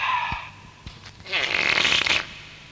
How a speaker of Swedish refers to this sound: Kapten satte sig rakt på en pruttkudde som Abdalla hade lagt dit strax innan han for iväg tillbaka hem till Kemed och sin far emiren.